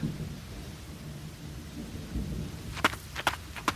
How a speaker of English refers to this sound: The thunder approaches.